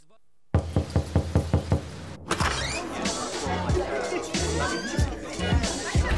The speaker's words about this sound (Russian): Ребята, а это я ломаю дверь.